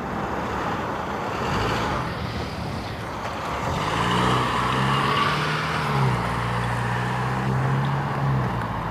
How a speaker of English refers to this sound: All these cars. We've all convened on the neighborhood's busiest intersection.